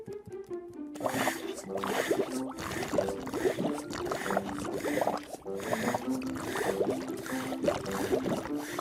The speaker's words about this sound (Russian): Ручной насос втягивает воду и по специальному шлангу отправляет ее в бочку.